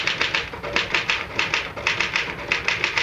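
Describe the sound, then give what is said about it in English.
A manual typewriter clatters away in a quick, steady rhythm, each key strike a sharp, crisp snap, with no voices. “Well, the truth is that the typewriter, or rather, Mr. Gann, does all the brain work.”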